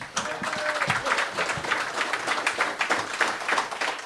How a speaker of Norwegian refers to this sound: Stor applaus til Frode.